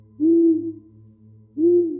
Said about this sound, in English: I climbed slowly out of bed, determined to catch a glimpse of this mysterious owl. I silently opened the curtains and peeked out. I didn't see anything. The sound of the owl's hooting seemed to be coming from the right.